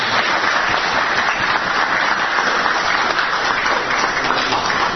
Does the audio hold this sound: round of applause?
yes